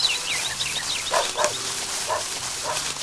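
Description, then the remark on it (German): A dog barks several times in short, irregular bursts at moderate volume, set against a busy, steady background with high chirping sounds. No one speaks. “Ich dachte, den Hund kann ich jetzt töten.”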